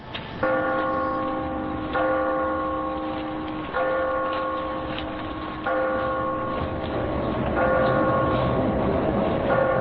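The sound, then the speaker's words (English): A large bell strikes the hour, five slow, evenly spaced tolls about two seconds apart, each ringing on and overlapping the next, loud and resonant with no voices. “It was a bright, cold day in April, and the clocks were striking 13.”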